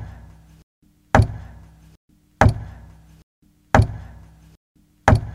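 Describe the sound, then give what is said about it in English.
Four loud, evenly spaced knocks about a second and a half apart, coming from the other side of a wall created by a cave-in, each a sharp hit with a short fading tail, separated by quiet pauses with a faint low hum. “From the other side of the wall created by the cave-in, Matt could hear a regular knocking.”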